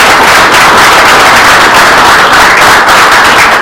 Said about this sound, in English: Let's round of applause real quick for 5 years.